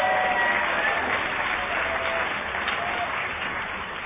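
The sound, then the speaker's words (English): An audience applauds steadily, a dense wash of many hands clapping at once. The clapping is loud and fades slightly toward the end. It is a big round of applause for the event's volunteers and organizers. “So give everyone a big round of applause.”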